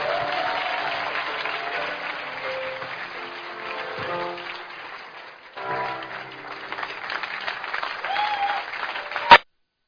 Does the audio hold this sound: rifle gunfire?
no